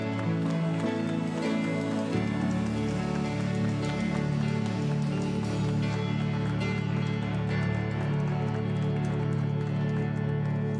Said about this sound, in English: Give the Lord a good clap on.